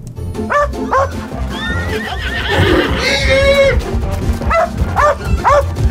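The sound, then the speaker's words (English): A dog barks in short repeated bursts while chasing a stray chicken, and a spooked horse lets out a loud, wavering whinny in the middle, the barking continuing around it, energetic. “Madra chasing a stray chicken, Maeve's nearby horse getting easily spooked”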